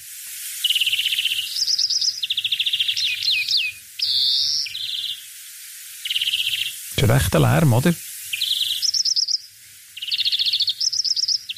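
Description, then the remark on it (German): A European greenfinch sings continuously, a rapid series of twittering trills and buzzy chirps repeated in bursts, with a brief spoken remark cutting in midway. “Und dann auch diese Vogelstimme gefunden.”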